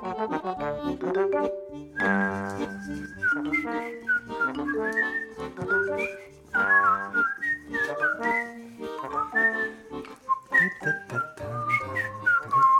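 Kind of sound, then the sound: human body sound, human whistling a tune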